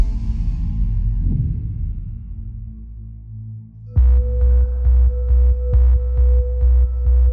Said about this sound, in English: He heard and felt a low pulsing hum.